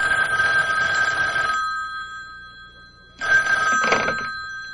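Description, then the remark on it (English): A telephone rings in two long, buzzing bursts separated by a short silence, steady and fairly loud, with no one speaking, as a call is placed from a public phone. “Then he crossed to the public phone to make a call.”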